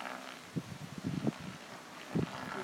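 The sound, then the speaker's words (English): Gusty wind buffets the microphone in low, rumbling bursts over a steady airy hiss on a very windy day with the sun going in and out, several stronger gusts rising and falling across the few seconds. “It's very, very windy, as you can probably hear.”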